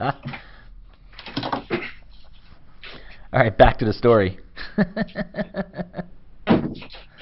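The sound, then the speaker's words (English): A door is closed once with a short thud partway through, moderately loud, while a person talks before and after. “Here, let me close the door so it's a little bit better.”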